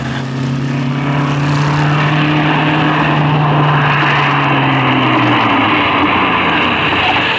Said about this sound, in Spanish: Pesado carro se detiene.